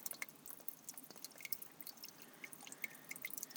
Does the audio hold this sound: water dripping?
yes